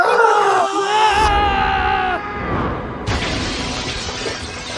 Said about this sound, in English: I love the recap anytime they show … throwing the basketball and screaming.